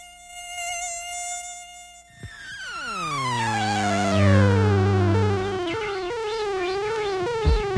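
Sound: mosquito buzzing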